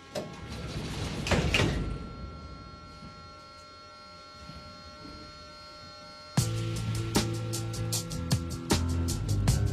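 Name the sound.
subway train doors closing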